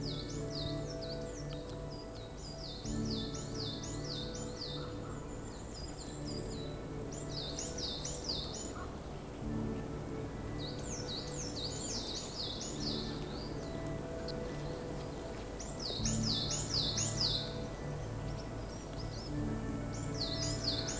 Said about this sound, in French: Et le bal des oiseaux commence à chantonner.